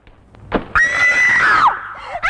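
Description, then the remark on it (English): In a film directed by Gerald Thomas, a pretty young woman in Edwardian clothes in a wood lets out one loud, shrill scream, held for about a second before its pitch slides downward. A short breath comes before it, and another cry begins right at the end. “Directed by Gerald Thomas, in a wood, a pretty young woman dressed in Edwardian clothes screams.”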